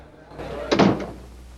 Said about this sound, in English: Zoe climbs the stairs to the landing and looks in through the open door. Neil shuts it.